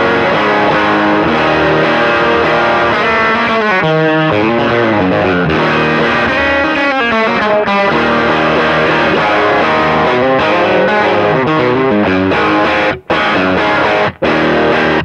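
A loud, overdriven electric guitar played straight through an amp with an always-on Zvex Double Rock pedal, strummed chords and riffs ringing out continuously for the whole stretch, with a couple of brief breaks near the end.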